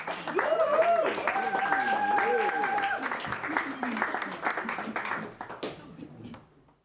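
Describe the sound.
An audience applauds as someone comes to the front to stand as a model, with dense, steady clapping that holds for several seconds before thinning out and fading away, while voices call out and cheer over it.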